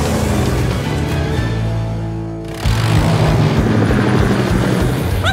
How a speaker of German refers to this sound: Sky stürmte zu ihrem Hubschrauber, der auf dem Dach parkte.